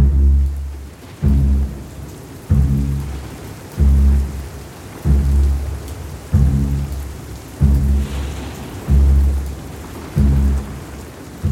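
Steady rain hisses throughout while deep, rolling rumbles of thunder swell and fade again and again at close, regular intervals, giving a heavy, continuous storm atmosphere with no voices.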